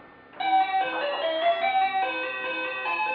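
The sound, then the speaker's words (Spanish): A toy telephone rings with a tinny electronic melody, a bright, steady jingle of high beeping notes that starts abruptly and plays on without pause, with no one talking. “No, el teléfono hace mucho ruido”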